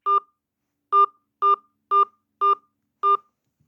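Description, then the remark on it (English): Six touch-tone phone keypad beeps, each a short dual-tone burst, as a 5-digit zip code and the pound sign are entered into an automated phone system; a pause follows the first, then the remaining five come at a steady, even pace with no voices. “Enter your 5-digit zip code, followed by the pound sign.”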